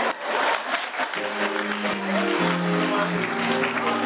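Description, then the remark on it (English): Dense applause from a crowd fills the opening second, a steady wash of many overlapping claps, before sustained tonal notes rise over the fading clapping and carry through to the end. “Isn't that awesome? Yeah, man, they clap like you mean it.”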